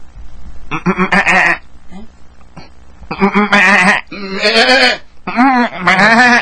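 Goats bleat loudly and repeatedly at a goat market (bakra peeri), several wavering calls overlapping in bursts with short pauses between, against a faint low background hum.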